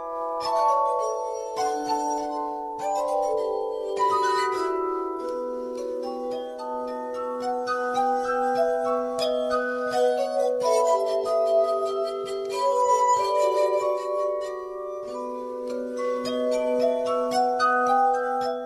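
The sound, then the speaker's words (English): In Gdańsk, Poland, a duo draws a clear, ringing melody from glass instruments, sustained pure tones gliding over a steady low drone, shimmering and bell-like throughout with no voices. “You can watch the nimble fingers of the glass duo perform the dance of the Sugar Plum Fairy.”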